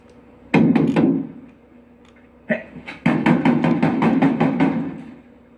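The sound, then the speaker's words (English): Loud knocking on a closed door by someone wanting it opened: a short cluster of heavy raps, a pause, then a longer rapid series of pounding knocks with no voices. “Hey, the door closed. Hey, would you come back and open the door?”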